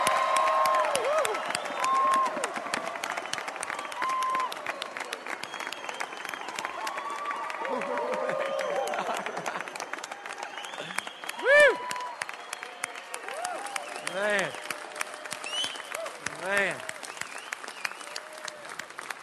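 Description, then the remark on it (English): A church audience celebrates new members who have come to join the church. It applauds steadily for about twenty seconds, dense continuous clapping with scattered cheers and a few rising, high-pitched whoops cutting through near the end. “So I want you to celebrate like you're at a football game, okay? Not like you're at church.”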